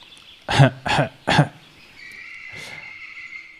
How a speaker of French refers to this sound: Alors, vous vous imaginez, dans cette forêt, vous faites votre petite randonnée. Et là, vous vous mettez à tousser.